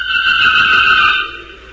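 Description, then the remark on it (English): Lieutenant Calvin drives away in a car, its strained, high engine whine loud at first, then fading quickly into the distance within a couple of seconds. No voices are heard. “From a distance, I finally heard Lieutenant Calvin drive off.”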